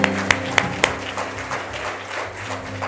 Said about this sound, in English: Praise the Lord. Come on, let's get God a hand clap of praise. Amen.